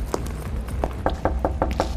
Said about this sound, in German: Ja, sollen wir mal klopfen oder?